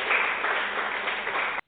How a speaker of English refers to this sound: It's always good to have that radio clap.